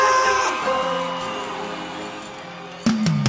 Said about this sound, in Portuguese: Cadê o grito da Paraíba?